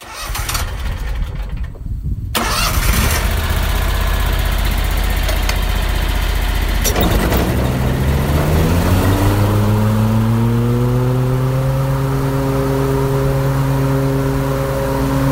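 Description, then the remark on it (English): A lawn mower engine, used for mowing a church cemetery, is pulled into life after a couple of sputtering tries, then revs up steadily and settles into a loud, continuous drone with no voices. “Now, 45 years later, Skip has a part-time job mowing the church cemetery where the Lady of the Dunes is buried.”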